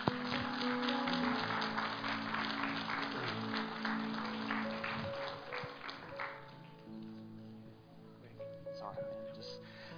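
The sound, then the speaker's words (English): An audience applauds the worship team in a dense, steady patter of clapping over sustained keyboard chords, the clapping thinning out and fading after about six seconds while the music continues. “Hey, give a round of applause to the worship team.”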